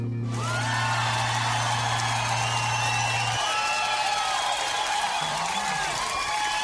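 The studio audience of the jazz program Bent Notes on community radio station Joy 94.9 breaks into a big round of applause for a guest vocalist and composer: dense steady clapping mixed with cheers and whoops, loud and sustained throughout, with a low steady hum underneath for the first few seconds.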